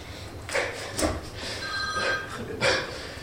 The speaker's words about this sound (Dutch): Telefoon.